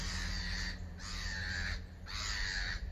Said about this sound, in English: The birds are noisy, but let's try and learn these lessons this morning.